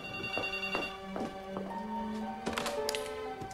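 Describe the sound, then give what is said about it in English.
A telephone rings with a steady electronic tone, broken by a few sharp clicks along the way; clear, with no one talking, as a worried father phones home. “Worried, Simon's father turns off the TV and phones home.”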